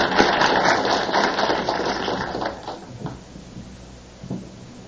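A crowd breaks into warm applause, a dense wash of clapping that stays loud for a couple of seconds, then thins out and fades, leaving a few scattered claps at the end.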